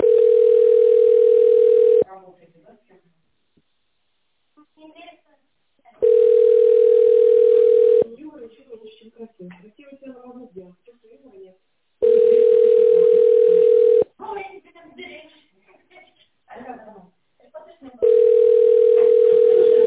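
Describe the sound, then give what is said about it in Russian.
A telephone ringback tone while a call to the company Intel Trade is connected to an operator: four long, steady mid-pitched tones, each about two seconds, separated by regular pauses of roughly four seconds, with faint voices murmuring in the gaps. “Соединяю с оператором.”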